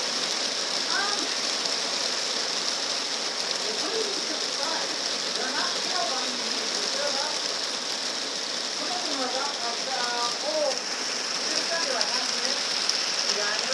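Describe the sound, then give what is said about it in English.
Heavy rain pours down in a dense, steady hiss that never lets up, with faint voices murmuring now and then beneath the downpour. “Guess what it's doing? It's raining a lot.”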